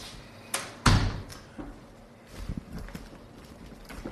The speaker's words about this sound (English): I'm just going to pull that door too.